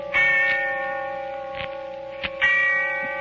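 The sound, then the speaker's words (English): A church bell tolls twice in the darkness of early evening on All Souls' Night, slow and resonant, each heavy strike leaving a long humming ring that hangs and fades into the next. No voices, just the deep metallic tone. “And the sound of the bell tolling away in the darkness of early evening.”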